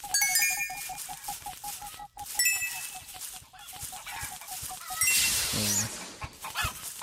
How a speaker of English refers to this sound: Whoa. Everything's all sped up. This is crazy. Whoa, and the chicken's faster too.